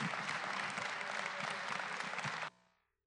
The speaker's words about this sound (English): It is my joy. Would you give a rounding applause